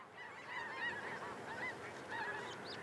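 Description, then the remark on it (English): A huge flock of snow geese honks continuously overhead on a drizzly, chill autumn morning, heading south for the winter, at a plot southeast of the Woolsey Tallgrass Wet Prairie in Fayetteville; a dense, overlapping chorus of high nasal calls, with no voices present. “A huge flock of snow geese fly overhead this drizzly, chill autumn morning, heading south for the winter.”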